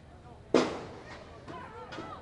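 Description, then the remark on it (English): A baseball from a foul drive down the left field line at a Marauders game slams into metal bleachers with one sharp, loud thump that rings and fades quickly, followed by a couple of softer knocks over a low murmur of crowd noise. “It's the metal bleachers with a loud thump.”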